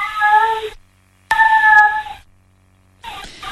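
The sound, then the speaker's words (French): A cat named Loustique meows plaintively three times at night in a house, each cry long and drawn out with pauses of silence between, fairly loud, the last one cut short. “Cette nuit-là, quand la porte de la maison s'est fermée sur les ambulanciers qui m'emmenaient aux urgences, il s'est mis à pleurer.”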